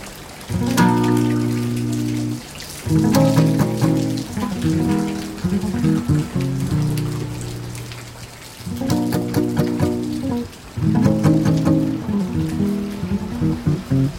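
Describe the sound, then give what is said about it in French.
Steady rain from a small thunderstorm in Mamoudzou, Mayotte, pattering and splashing on a hard surface, with dense drips and a few louder bursts, along with sustained tonal resonances; no voices. “La pluie, un petit orage, un tout petit orage sur Mayotte en ce moment, Mamoudzou pour être précis, parce qu'il n'est pas dit que ça tombe sur les autres parties de l'île, mais cette pluie-là, cette eau-là, bénéfique.”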